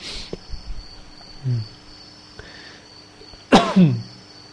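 A short, low throaty grunt, then a louder, harsher cough, with a steady high insect drone running underneath throughout.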